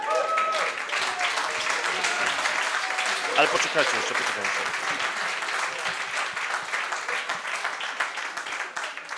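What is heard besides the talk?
audience applause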